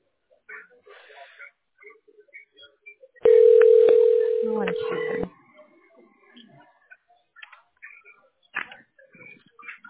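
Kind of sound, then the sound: signal or alarm, telephone call connecting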